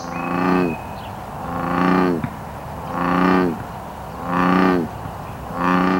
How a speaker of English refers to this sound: In the Willamette Valley, we have two common frog species, the Pacific chorus frog and the non-native American bullfrog. Bullfrogs make a bellowing call.